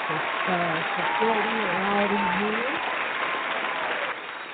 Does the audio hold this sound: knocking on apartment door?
no